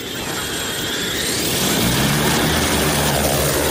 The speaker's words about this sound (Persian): تصور کنین قرار چند تا پهپاد با هم پرواز کنن. پس نیاز داریم اونها در یک جهت حرکت کنن تا وقتی مشکلی رو ردیابی کردن به طور اتوماتیک با هم برای ضبط تصویر بهتر همکاری کنن.